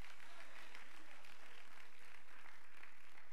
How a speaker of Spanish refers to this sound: Dele un aplauso al Señor en esta noche, hermano, por el poder que tiene la palabra.